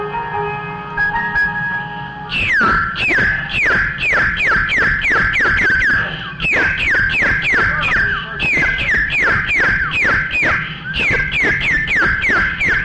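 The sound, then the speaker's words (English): A person whistles a rapid, warbling birdsong imitation, with quick rising and falling chirps repeated in a steady run. The loud, high whistling goes on for about ten seconds with no talking. “I would sing to him, then he'd sing to me, and I'd whistle to him like this.”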